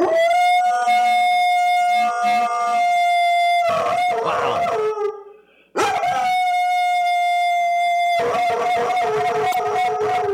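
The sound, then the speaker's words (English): A husky mix dog howls loudly as hard as it can, its body locking, in long, sustained, steady-pitched notes, pausing briefly around the middle for a breath before launching into another drawn-out howl. No one speaks. “And it is on our YouTube page if you want to check out the video, because it's one of the great things where the dog's body locks because they are just howling as hard as they possibly can. I think it might be like a husky mix.”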